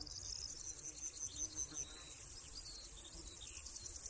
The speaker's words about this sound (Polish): Konik Górski koncertuje od lipca do października.